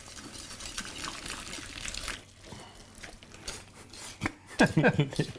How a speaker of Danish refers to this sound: Hvad skal vi piske med? Piskeris. Ja. Pisker under. Omrøring under.